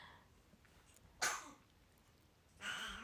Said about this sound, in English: Yeah, my baby is sick too. You can hear her coughing.